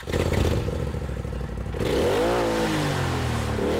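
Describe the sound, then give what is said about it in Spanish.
A rented Polaris off-road vehicle driven on trails in the Akamas Peninsula National Park idles with a rough, clattering rumble, then revs up strongly around the midpoint, its pitch rising and falling in loud surges. “es un Polaris, es quizá el mejor coche de todoterreno de venta al público, ¿no?”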